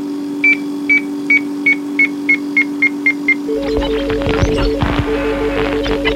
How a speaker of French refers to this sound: Bip. Bip, bip.